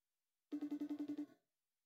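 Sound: phone call ringing tone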